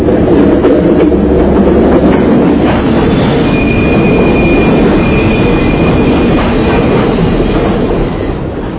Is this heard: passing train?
yes